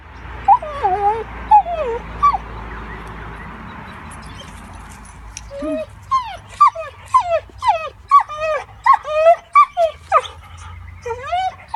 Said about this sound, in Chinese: 但是应用动物行为学家 Kate Monument 医生经常治疗动物由于分离而引起的焦虑症，就好像是这条狗所经历的。下面是狗狗的哭声。